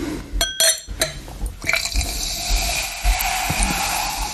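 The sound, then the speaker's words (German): Rotkäppchen Flaschengärung sparkling wine (Sekt) is poured into a glass: a few clinks at the start, then a steady liquid stream with a bright, fizzing hiss that rises as the glass fills. “Ja, und ich mache jetzt mal ein Sektchen hier rein.”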